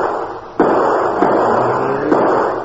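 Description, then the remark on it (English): Three sharp gunshots, fired at the Hornet car, crack out at uneven intervals over a steady, loud roaring rumble, each shot a sudden bang that quickly blends back into the continuous noise. “You can hold your fire, Moran. No use wasting cartridges.”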